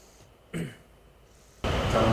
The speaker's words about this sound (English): Sound like that of a mighty rushing wind, like our air conditioning going right now. Probably louder than that.